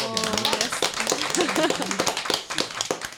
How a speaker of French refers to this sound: On applaudit toujours les invités deux fois